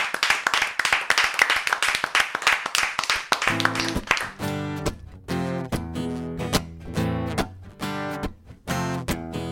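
Loud audience applause fills the first four seconds with dense, crackling claps, then fades as a band starts playing punchy, rhythmic music with sharp accented hits.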